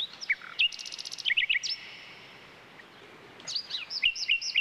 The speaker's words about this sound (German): Es gibt aber auch welche unter ihnen, die sich die Nacht um die Ohren schlagen. Ein solcher Vogel ist, wie der Name schon verrät, die Nachtigall. Sie ist ein scheuer Singvogel, den man nur selten zu Gesicht bekommt, dafür aber umso besser hören kann.